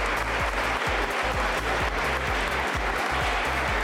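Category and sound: crowd, audience applause at graduation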